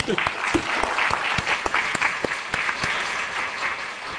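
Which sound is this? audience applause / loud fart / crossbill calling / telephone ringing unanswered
audience applause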